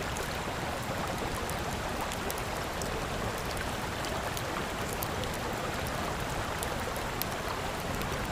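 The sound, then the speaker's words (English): A campfire on a riverbank in the woods crackles with scattered sharp pops over the steady rush of a flowing river, with no voices. “He pulls it out and stands beside a campfire.”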